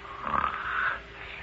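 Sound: snoring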